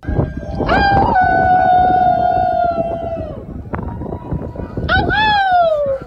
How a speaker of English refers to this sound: The howling has become a nightly occurrence in some areas, and people are inspired to howl or howl more when they hear others respond.